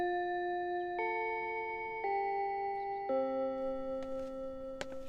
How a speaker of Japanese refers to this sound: ほら、チャイムも鳴ったことだし、授業に集中しろよ。